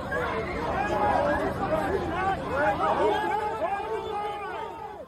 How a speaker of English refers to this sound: Crowds shouting, officers dragging away protesters.